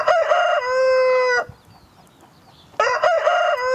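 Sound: rooster crowing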